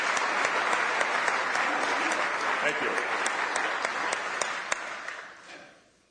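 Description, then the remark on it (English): Sustained audience applause for a mayor, a dense crackle of many hands clapping at steady loudness before tapering off near the end, with a voice briefly saying a few words over it. “Let's give him a round of applause for his service and for setting an example for all of us to follow.”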